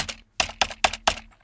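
Computer keyboard keys being typed in a quick, uneven rhythm of about six sharp clicks, fairly loud, with no voices.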